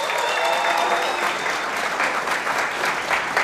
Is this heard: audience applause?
yes